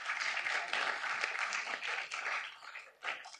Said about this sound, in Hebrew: מגיע לך גם מחיאות כפיים.